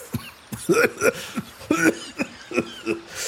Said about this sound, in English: He coughs even when he puts a cigarette near his mouth, even though it's not lit. How could anyone inhale these things?